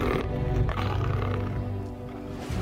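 A lion roars loudly, one long, deep, rumbling growl that swells and then tails off over a few seconds, with no other sounds around it.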